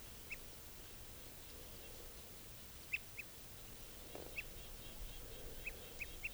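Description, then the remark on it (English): Scattered short, nasal chip and toot notes from a type 2 red crossbill in a tree right above a net, giving alarm calls and toots, around seven calls spread irregularly over a few seconds, fairly faint against a quiet outdoor background with no one talking. “Giving alarms and toots now.”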